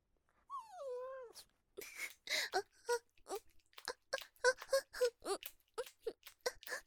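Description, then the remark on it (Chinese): A person makes a single high, wavering whine that slides downward, imitating a whimpering female dog, then follows it with quick, soft-spoken talking. “聪明吧，血母狗叫很像是吧，你家主人都被我骗过了，以为是条骚母狗进来了呢。”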